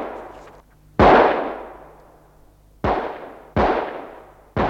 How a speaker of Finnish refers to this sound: Mutta silloin kajahti leirin laidasta 5 kiväärin laukausta.